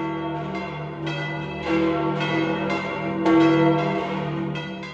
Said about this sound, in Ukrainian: Про ці та інші події в житті апостольської столиці розповість сьогоднішня передача, приготована в рамках співпраці між Радіо Ватикану та Національною радіокомпанією України, впровадженням у яку будуть, як зазвичай, дзвони базиліки Святого Петра.